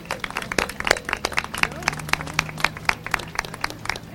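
An audience applauds with a steady patter of many overlapping claps, moderately loud and continuous for several seconds, with a faint low hum underneath and no one speaking.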